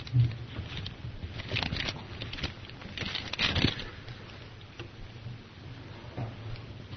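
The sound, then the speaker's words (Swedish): Thin book pages being leafed through to the First Epistle of John, chapter 2, verses 22 and 23, a run of soft papery rustles and flicks with two fuller swishes partway in, over a low steady background hum and no talking. “att bläddra fram det.”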